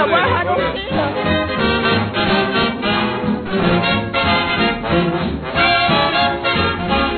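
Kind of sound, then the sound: crowd, crowd chatter and hubbub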